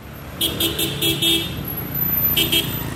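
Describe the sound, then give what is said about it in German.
A steady low engine rumble of a motorcycle ridden through traffic by a turbaned Sikh man taking passengers to his village, punctuated by a series of short, quick horn toots in a burst early on and another pair near the end. “Auf dem Motorrad führt uns Hanak, der Sikh ist und ein Dista, einen Turban trägt, in sein Dorf.”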